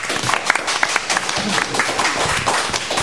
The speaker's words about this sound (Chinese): 咁我哋可以俾掌声佢哋啊！